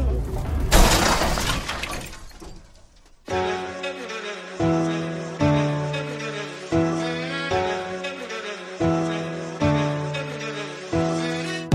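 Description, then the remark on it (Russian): A loud car crash with headlight glass shattering bursts out at the start and scatters into fading debris, then a repetitive melodic tune takes over, looping in steady phrases for the rest. “Ты разбил мне фару, бампер и дверь.”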